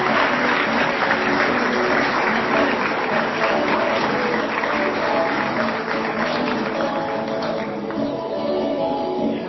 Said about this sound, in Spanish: Ahí sube, un fuerte aplauso para darle un empujoncito.